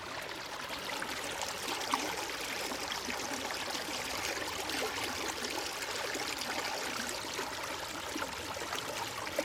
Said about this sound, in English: And in the meantime, the ditch is looking marvellous with actually water. Water running flowing down it. And once it gets to the chalk layer further in the other corner of the field, that's it. It disappears into the chalk aquifer. Listen to that.